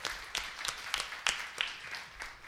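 A church audience applauds a member turning 90 years old: a steady, fairly soft patter of many hands, with a few sharper individual claps standing out at irregular moments, and no one speaking over it.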